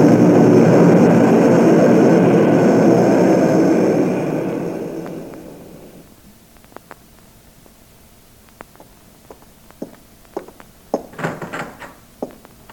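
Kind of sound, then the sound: vehicle, airplane flying overhead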